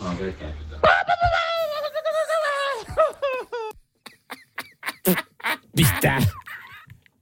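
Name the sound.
person imitating seagull calls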